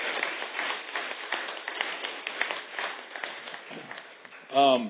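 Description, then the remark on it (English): A crowd at a conference applauds steadily for several seconds, a dense wash of many hands clapping together, before a single voice starts speaking as the clapping fades. “So I would like to just have a round of applause for everybody and everything that has gone into that.”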